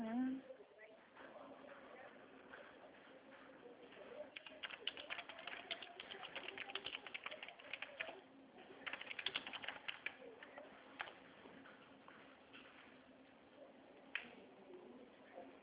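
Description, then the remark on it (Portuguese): Rapid, irregular clicking of a woman typing on a computer keyboard, moderately quiet, running in bursts for several seconds over a low background murmur. “Espera aí que ela está digitando.”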